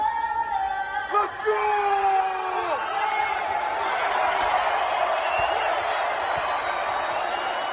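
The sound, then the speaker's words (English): A packed arena roars with sustained crowd noise during the national anthem with the lights down, while loud yells and whoops, including LeBron screaming to pump people up, rise sharply above the din in the first few seconds before blending into a steady wash of cheering. “This is this is audio slash video of the lights are down, the national anthem is going, and LeBron is screaming, pumping up people.”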